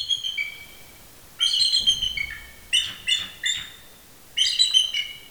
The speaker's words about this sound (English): At Avian Haven in Freedom, it's feeding time at the Bald Eagle enclosure.